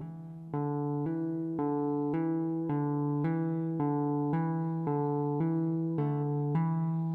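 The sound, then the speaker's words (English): Guitar hammer-on and pull-off notes, only the first note picked: a steady, even rhythm of two pitches alternating back and forth about twice a second, ringing smoothly with no voices. “Hammer, pull off. I'm only hitting the first note.”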